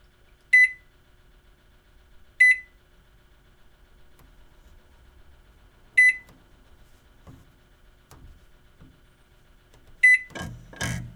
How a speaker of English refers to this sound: Yeah, push anything, cancel, don't start the microwave.